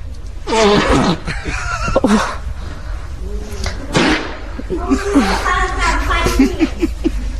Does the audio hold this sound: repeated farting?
yes